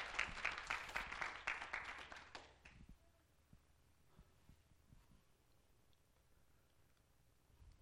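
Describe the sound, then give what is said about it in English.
An audience claps hands in praise of the Lord, a loud burst of many overlapping claps for under three seconds, then tapering off to a few scattered, faint claps against quiet background. “Yes, give the Lord a hand clap of praise.”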